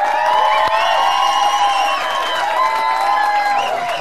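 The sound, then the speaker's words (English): A large audience applauds and cheers loudly and continuously, with whoops and shouts rising above a dense wash of clapping throughout, as the Group CEO of Spar, Angelo Swart, is welcomed. “please give me your loudest applause, Ama Fleets, whatever you've got, as we welcome the Group CEO of Spar”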